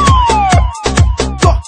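A synthetic siren wail sweeps downward in pitch over a pounding electronic beat with heavy, evenly spaced kicks, loud and upfront like a sound effect dropped into a dance track.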